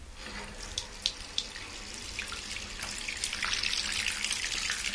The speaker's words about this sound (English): It calls itself Doctopus Matey Bubble Bath, and it changes colour in the bath. All right, then, well, let's run a bath and get it tested out.